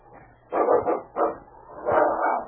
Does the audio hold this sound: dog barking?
yes